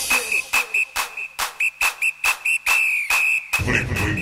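A shrill, steady whistle sounds over a rhythmic beat, its tone pulsing with each regular thump before trailing off into a burst of rougher noise.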